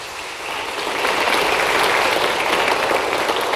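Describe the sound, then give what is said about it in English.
A church audience applauds to recognize members who have been on the church's team trips to Alaska, a dense, steady patter of many hands clapping that swells after the first second and holds at a loud, even level, with no voices heard. “Just let's give them a round of applause.”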